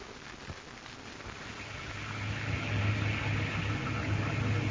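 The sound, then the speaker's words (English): Steady rain hiss with a low wind rumble that swells louder over a few seconds, a continuous stormy wash with no voices. “You can't leave the critters out in a storm like this, Ma.”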